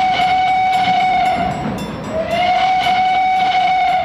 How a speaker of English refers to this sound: It was the sound of an unscheduled freight train speeding down the tracks toward them.